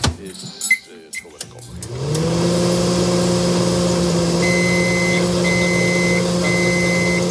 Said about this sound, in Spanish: Y como cada mañana, pones un minuto y medio una taza de leche en el microondas.